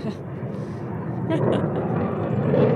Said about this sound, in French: Ah, il est tout prêt, là, l'avion. Hein. C'est juste au-dessus de nous, en fait, donc... C'est pas compliqué. Voilà, bonjour, l'armée belge.